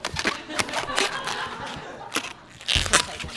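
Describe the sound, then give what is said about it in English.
An old rubber balloon is twisted into an animal shape, with the body and back legs being formed. It gives off a run of squeaky, crackling rubs and stretches in uneven bursts, with no one talking. “It's funny, like, I don't buy these balloons very often. I could feel that this one's kind of old, so it actually might pop.”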